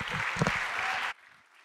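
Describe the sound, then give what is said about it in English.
A church audience clapping together in a dense burst of applause for about a second, then cutting off abruptly into near silence. “Let's clap our hands to the Lord Jesus Christ.”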